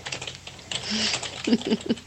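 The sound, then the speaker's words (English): Rapid, uneven clatter of keys on a computer keyboard, moderately loud, with bursts of quick strokes and a few heavier thumps near the end, as someone types messages and Googles. “I hear frantic typing.”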